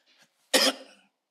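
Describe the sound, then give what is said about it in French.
A single sharp cough bursts out loudly after a faint breathy lead-in, trailing off quickly into silence. “Il y a une toux qui m'a attrapé ici.”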